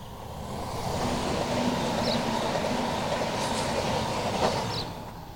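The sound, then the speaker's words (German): A BLS regional train rumbles past on the railway line beside the Gürbe river, a steady broad roar swelling and fading over about five seconds, with faint metallic squeals and clatter from the wheels. No one speaks. “Warte, jetzt kommt gerade der Zug, jetzt warte eine Sekunde.”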